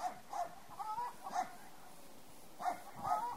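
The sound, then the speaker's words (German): A dog barks in short, repeated bursts with a few brief yips mixed in, in a village by a river, against a quiet outdoor background. “In den beiden Dörfern am Fluss lassen lediglich Hühner und Hunde von sich hören.”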